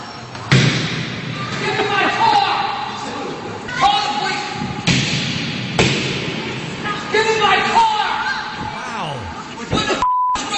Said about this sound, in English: And when you hear banging, he's pounding on the window of the valet.